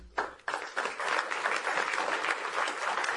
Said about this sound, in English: And you, we must give you a round of applause as VTC, as the MESAC.